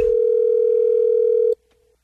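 A phone line rings on an outgoing prank phone-scam call to a man, with the caller posing as the HR department of the corporate building where he works: one steady, fairly loud electronic tone that holds for about a second and a half, then cuts off into near silence. No voices.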